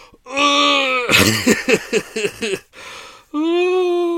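A person gives a drawn-out, moaning yawn with a voiced, wavering pitch, broken by a run of breathy, huffing gasps before a second long vocal stretch. Fairly loud.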